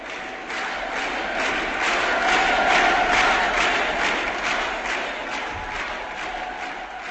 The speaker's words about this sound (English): These shouts, which sounded like the brute response of a huge mass machine and had no resemblance to the spontaneous cheers of a crowd, brought back mean and bullying memories.